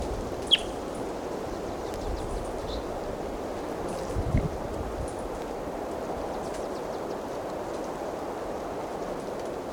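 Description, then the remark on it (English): A single sharp, high chirp from a wild bird rings out early, followed by a few faint, thin calls over a steady rushing background noise. No one speaks. “Now back to the wild bird.”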